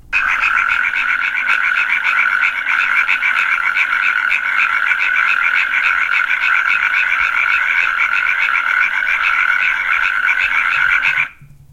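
A natterjack toad calls in a long, unbroken rattling trill, loud and steady with a fast pulsing rhythm, continuing alone for about eleven seconds before stopping abruptly.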